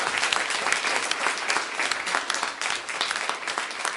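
A church audience gives the Lord a hand clap of praise for testimonies, many hands clapping together in a steady, dense wash of bright, crisp claps that holds at a fairly loud level for the whole stretch with no voices.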